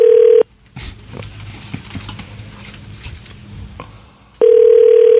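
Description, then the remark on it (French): A loud, steady phone ringing tone of an outgoing call back to a woman sounds briefly, gives way to a few seconds of soft clicking and tapping, then the same tone resumes. “Je sais pas si elle va répondre.”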